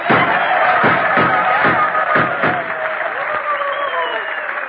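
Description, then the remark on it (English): Loud, steady applause from a crowd giving a Western reception, with whoops and whistles, punctuated by a series of sharp gunshots in the first half, before the clapping gradually thins out. “Well, how's that for an ovation”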